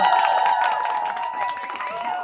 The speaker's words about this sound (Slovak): A teraz počujete potlesk.